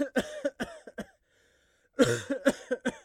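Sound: coughing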